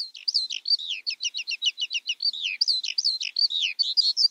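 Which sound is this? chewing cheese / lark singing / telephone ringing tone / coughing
lark singing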